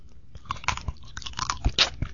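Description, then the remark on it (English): Loud, hard crunching of a jawbreaker candy being bitten and chewed, with repeated sharp cracking bursts in an irregular rhythm over about two seconds, no voices. “I think you're just jealous because you don't have one of my jawbreakers.”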